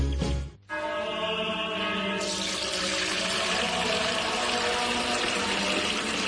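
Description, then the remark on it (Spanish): After a brief pause, Fuente Umbría spring water pours steadily into a container, a continuous splashing gush with a hollow, ringing resonance as the vessel fills. It is fairly loud, with no voices. “es que no nos quedaba agua bendita. Agua pura de manantial Fuente Umbría.”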